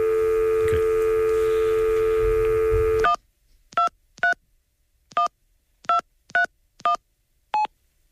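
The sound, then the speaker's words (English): A steady telephone dial tone hums for about three seconds, then cuts off into eight short, crisp keypad beeps at uneven intervals as a number is dialed on a keypad to make a call. No voices. “So I'll open that channel 1, and we'll try and make the call. Hang on a second. Where's the keypad thing?”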